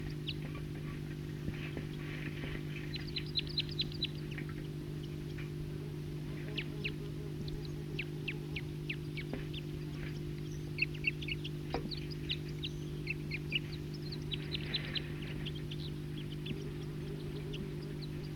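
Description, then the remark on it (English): A flock of about 40 wild birds call over a steady low hum, with many high, quick chirps and short trills scattered throughout, some in rapid bursts of several notes, all fairly faint. “They're calling troops of a wild bird.”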